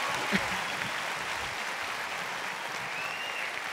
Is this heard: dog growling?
no